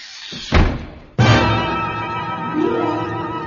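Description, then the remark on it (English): A door swings shut with a dull thud, then a second sharp, heavy bang follows a moment later, leaving a sustained low rumble and ringing tail. No one speaks. “I said don't close the door.”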